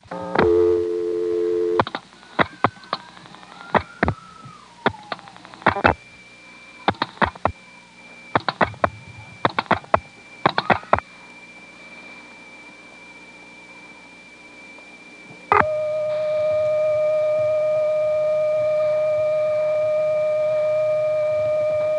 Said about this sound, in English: 49 to drop the register sender, 6 to go into the Dale City trunk, which will very obviously be a resonant wire trunk, and then I'll dial the last four digits, 2111. Apparently, at this particular point in history, the zero did not have to be dialed.